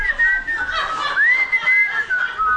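Several people at church whistle together in a wavering, sustained tune that rises and falls, with a few overlapping pitches and faint chuckling underneath. No one speaks.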